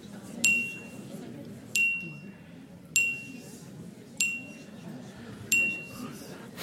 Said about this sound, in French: Ça fait cling pour A, B, quand A trinque avec B. Ça fait cling quand A trinque avec C. Un autre cling quand A trinque avec D.